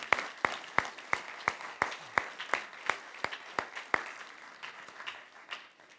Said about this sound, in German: Und daher Chapeau und danke an Mama, dass du das für mich durchgemacht hast. Ey, Applaus für unsere Mama.